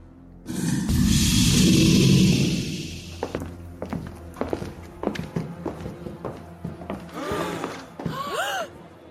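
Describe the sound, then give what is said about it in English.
Heavy doors groan open with a loud, rumbling grind, followed by scattered thuds and clunks, then a few high, wavering creaks near the end. “Open the doors and keep the crowd at bay.”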